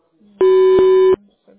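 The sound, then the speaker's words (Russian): A single loud voicemail beep: a steady, mid-pitched electronic tone held for under a second, with faint low murmurs just before and after it. “Пожалуйста, оставьте сообщение после гудка или перезвоните позже.”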